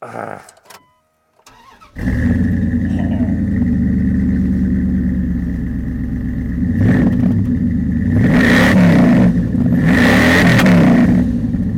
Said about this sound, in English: that's a manly sound. That is a manly sound. Dual exhaust.